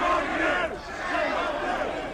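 A crowd shouting at a street protest where police are having a row with a couple of apparent anarchists, as eight horses travel down Threadneedle: a dense, continuous roar of many agitated voices with rough cries on top, fairly loud throughout and easing only briefly partway through.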